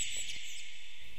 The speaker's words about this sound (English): Enjoy the peace of the garden like Elgar did, and listen to the birds singing in the trees. Each bird has its own unique song, just like a melody in music.